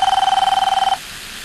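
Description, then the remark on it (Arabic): A telephone rings once with a loud, rapidly trilling electronic bell, a single burst lasting about a second before cutting off into quiet room tone. “سنرى ماذا يمكن أن يفعل إذا رن الهاتف عنده.”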